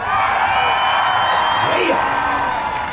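A loud, steady roar from a large rodeo crowd, with whoops and hollered yells rising above the din and some clapping mixed in, continuing without a break for the full few seconds.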